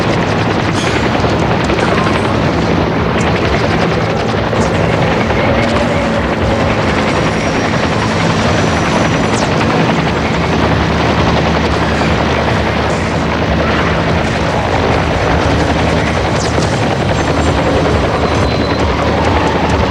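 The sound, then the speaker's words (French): A helicopter helping the army and police roars overhead, its rotor thudding in a steady, heavy drone that stays loud for the whole stretch, wrapped in dense rumbling noise with no voices. “Des petits avions et des hélicoptères aident l'armée et la police.”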